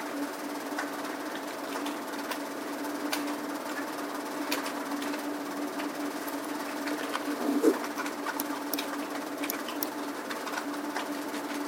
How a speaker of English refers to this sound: I hear a lot of typing going on.